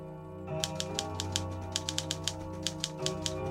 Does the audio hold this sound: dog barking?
no